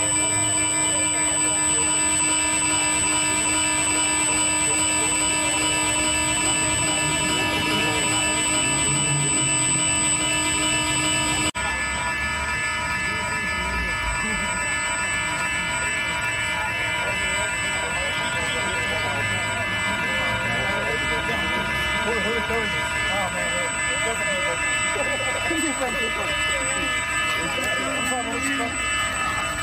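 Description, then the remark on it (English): Several Apple devices stolen from the Apple store in downtown Las Vegas sound alarms at once in a steady, continuous high-pitched drone for the whole stretch, fairly loud, with indistinct voices murmuring faintly underneath. “But anyway, every Apple device stolen from the Apple store in downtown Las Vegas last night is now sounding alarm saying it should be returned.”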